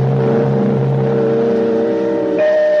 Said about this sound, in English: An automobile was a moving, functioning organism, therefore it was alive. To shut off the engine seemed to the watchbird like killing it. Therefore, the right of an automobile engine to go on running must be protected, even if the driver died.